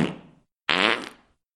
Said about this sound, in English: Burps? Butt burps?